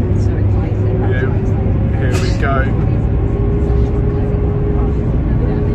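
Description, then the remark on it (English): Steady, loud engine drone and road rumble inside a moving shuttle bus heading to the square, with a constant low hum and some brief squeaks and faint background voices early on. “we're on the shuttle bus.”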